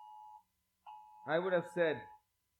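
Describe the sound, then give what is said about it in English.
A steady, piercing electronic emergency alert tone from Texas on a phone sounds twice: a short burst, a brief gap, then a longer stretch with someone's voice talking over it. “that was an emergency alert from Texas. I don't know why it came on my phone.”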